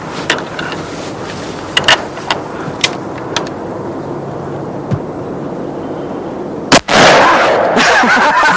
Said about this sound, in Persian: بیا بابا تا بزنش. من آقا. آره تو تیر اندازید خیلی خوبه، بزن بابا.